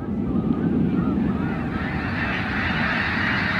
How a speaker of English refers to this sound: That big whoosh is the wings of 1,000 snow geese beating together, creating a rush of air like a passing freight train. Here it is one more time.